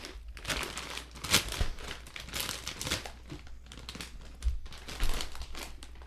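A bag of New Orleans kettle style potato chips crinkles and crackles continuously for several seconds in irregular bursts of bright, crisp noise, with a few louder crunchy peaks and no talking.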